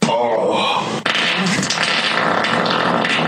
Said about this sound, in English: Or it's a sonic fart. Like a crazy, crazy fart. Like an ass ripper fart.